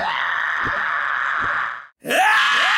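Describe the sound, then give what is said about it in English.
A loud, raw scream at the start of a theme song, held for nearly two seconds, breaking off abruptly before a second harsh vocal cry starts right after a brief gap. “the scream at the beginning is very close to the scream at the beginning of D'Angelo De Niro's theme”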